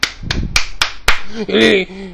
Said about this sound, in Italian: Gli applausi.